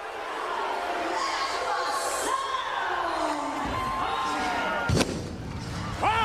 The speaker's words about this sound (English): Oh! Oh! Fireworks.